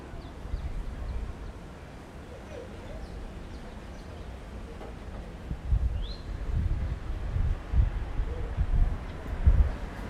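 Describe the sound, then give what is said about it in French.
Wind rushes steadily across a hotel room terrace in Martinique on a June afternoon, with low rumbling gusts buffeting the microphone more strongly in the second half; a faint bird chirp sounds briefly in the background. “Waouh, terrasse, vent.”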